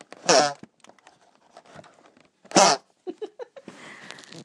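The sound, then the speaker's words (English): Two loud, squeaky honking bursts of air forced out through the layers of an empty cardboard Easter egg chocolate box as its lid is shut forcefully, a couple of seconds apart, with quieter crinkles and creaks between and a scratchy rustle at the end. “And then I shut it quite forcefully, so it's probably the air's coming out through the layers and it makes a really weird noise.”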